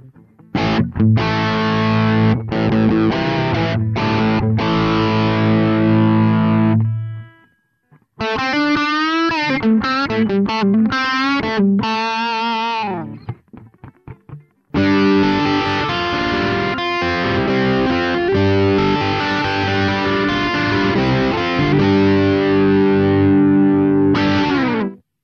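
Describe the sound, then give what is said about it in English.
Overdriven electric guitar through the amp's dirty channel, EQ set fairly flat and gain at about halfway (number 5), plays chugging rock chords and a short bending lead phrase, with a brief pause between passages; loud and gritty, no talking. “That gives us a good general sort of distortion sound.”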